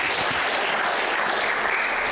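A steady wash of audience applause, dense overlapping claps sustained at an even, fairly loud level throughout with no voices breaking through.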